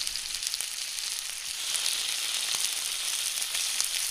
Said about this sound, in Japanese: 次に牛肉を煮込んでいきます。フライパンにサラダ油とあれば牛脂を入れます。牛脂が溶けてきたら巻き終わりを下にして焼き始めます。